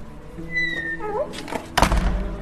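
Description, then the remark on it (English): A heavy door in a monastery almost 900 years old opens with a drawn-out, wavering creak of rising squeals, followed by a loud, solid thunk and a brief rattle. No one speaks. “I'll get the door.”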